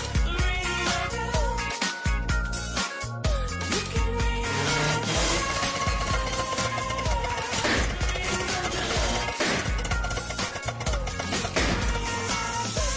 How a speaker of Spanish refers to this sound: Tranquilo, tu coche no se ha averiado. Pero si no vas en un Toyota, este ruido podría haber sido real.